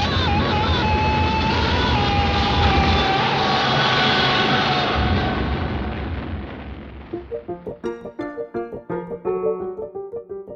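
Two movie screams, from Ron Burgundy in Anchorman and Ash in Evil Dead 2: a drawn-out scream rises through a dense wall of loud, rumbling, explosive noise, then the din drops away into a series of short, strained vocal cries and yelps.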